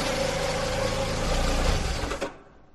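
A car engine idles with a steady, loud mechanical hum and low droning tone, then shuts off abruptly near the end on arrival at the sea, leaving near silence.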